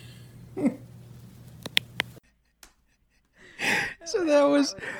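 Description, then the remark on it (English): A dog snoring at night: a short, breathy snort early on, then a louder rasping snore with a wavering nasal tone after a brief silence, over a low steady hum. “So that was my our dog snoring in the night, adding to the sound, the cacophony of the wind.”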